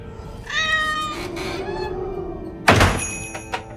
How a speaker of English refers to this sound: He closes the car door and goes on into the shop. A gust of wind blows the door open behind him, and the long-haired Moggy dashes in.